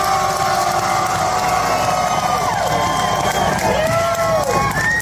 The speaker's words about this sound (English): Round of applause for Mr. ….